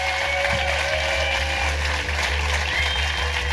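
A crowd applauds steadily and loudly for Jamie Dimitriou, a dense wash of clapping that holds at an even level throughout with no voices on top.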